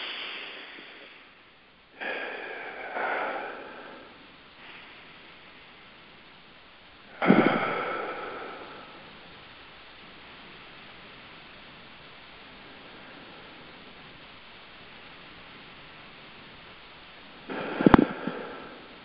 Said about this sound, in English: So here we go, 10 of these. So we're breathing in through the nose, out through the mouth.